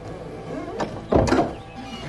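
A door creaks open with a drawn-out, groaning squeal, followed by a brief heavier scrape, moderately loud, as an actor opens an invisible door on a stage set of imaginary places.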